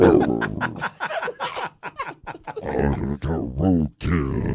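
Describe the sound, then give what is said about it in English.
A person growls in a deep, guttural death-metal style, a string of rough, strained bursts that swell and break off, loud and close with brief gaps between. “It sounds like doggy death metal.”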